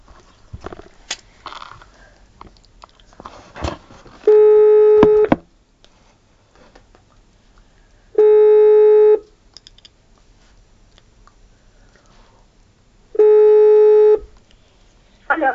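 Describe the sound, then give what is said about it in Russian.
A telephone call being placed rings out: three long, steady electronic tones about a second each, spaced several seconds apart, with faint clicks and handling noise before the first. “Звоним.”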